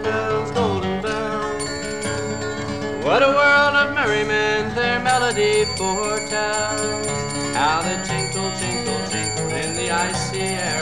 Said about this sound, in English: From the swinging and the ringing of the molten golden bells.